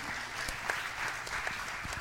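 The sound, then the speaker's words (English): A crowd at Metro Tab church applauds steadily, many hands clapping in a dense, even patter with occasional sharper claps standing out, sustained at a moderate level throughout with no voices. “Oh, yeah, y'all can give it up.”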